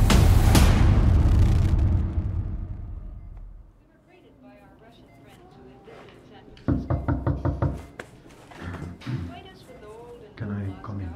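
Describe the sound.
A quick series of about five firm knocks on a door comes after a deep rumbling boom fades out. People talk before and after the knocking.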